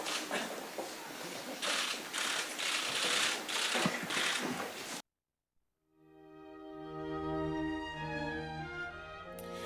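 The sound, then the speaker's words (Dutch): A dense flurry of camera shutter clicks rattles away for several seconds during an official opening, as Queen Máxima signs her name on a piece later to be etched into a window, then cuts to a brief silence before tonal music fades in. “Ja, u hoorde het camera geklik en dat was de officiële openingshandeling door het zetten van een handtekening, haar naam, van koningin”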